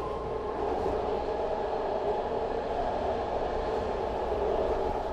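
A BART rapid transit train at a station rumbles steadily, a continuous loud mechanical roar with a low hum and mid-range whine, no voices, holding constant throughout.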